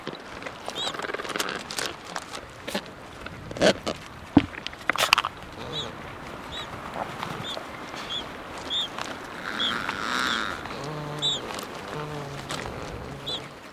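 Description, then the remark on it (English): A busy Adélie penguin colony: adult males and females give harsh, braying calls to each other that swell and overlap, thin high peeps of a chick hatched within the last couple days come through, and sharp clicks and the clatter of shuffled rocks punctuate the steady din. “Most of the calls you hear are Adélie adults, males and females, calling to each other.”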